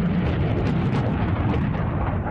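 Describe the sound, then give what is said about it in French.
A launch of American-made HIMARS missiles from a truck-mounted launcher roars in a dense, steady rush of rumbling noise, loud and unbroken for the whole stretch, heavy in the low end, with no voices. “Tous n'attendent désormais qu'une chose, le lancement des missiles HIMARS.”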